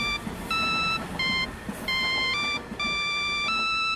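A custom ringtone plays from a flip phone in a pocket on a packed rush-hour train, a bright, electronic melody of short, stepped synthetic tones in repeating bursts, fairly loud over a low rumbling background.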